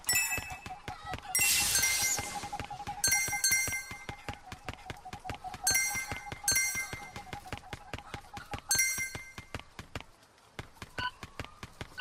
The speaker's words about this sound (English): Sounds like I'm galloping. I gotta fix those footsteps a little bit.